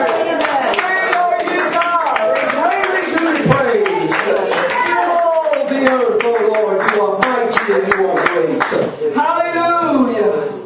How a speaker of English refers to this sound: Stand up on your feet right now. Clap your hands and a shout of praise to Jesus. Somebody shout his name in a praise to him.